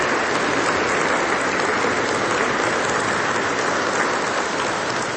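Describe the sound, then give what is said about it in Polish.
Steady audience applause, a dense wash of many hands clapping at an even loudness throughout, with no voices over it, thanking the young people of a parish for preparing a vigil. “Brawa.”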